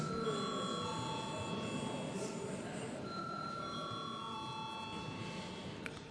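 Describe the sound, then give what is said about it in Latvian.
A chairman's bell rings steadily for several seconds, calling members to a secret vote on a draft decision to reappoint a Balvi district court judge, a continuous metallic ringing with bright, sustained high tones over a rattling buzz, fairly loud and with no talking. “Lūdzu zvanu.”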